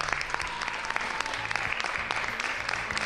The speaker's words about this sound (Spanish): Pues muchísimas gracias a todos los participantes de esta entrevista, y si os parece terminamos, como habéis empezado el día en el colegio, con un enorme aplauso, va por todos vosotros, por todos los niños y niñas.